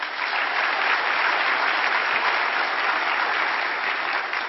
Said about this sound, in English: Let's give a round of applause again to our speakers.